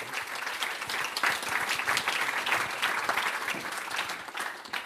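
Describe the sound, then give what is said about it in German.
Sustained applause from an audience at the Fine Crime Festival welcoming a newspaper editor onto the stage, a dense crackle of many hands clapping at a steady, fairly loud level for several seconds, with no voices standing out. “Herzlichen Applaus, herzlich willkommen, einen Applaus bitte.”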